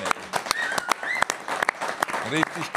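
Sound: applause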